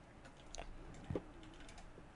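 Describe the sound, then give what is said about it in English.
Quiet, scattered clicks of computer keyboard typing, a few soft taps spread over a couple of seconds with one slightly louder cluster near the middle, unaccompanied by speech. “Trying to find I don't want to make a lot of noise typing”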